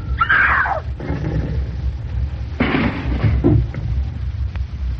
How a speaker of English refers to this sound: They skidded. I saw him try to right it, but he couldn't. The car, it went straight over the bank.